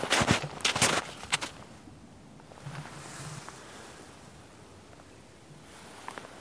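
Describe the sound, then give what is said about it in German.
A few slow, careful footsteps crunch as people climb cautiously, walking a few steps, then stop to stand still and listen; what follows is near silence with only faint rustles and a low murmur. “Ein paar Schritte gehen, stillstehen, horchen.”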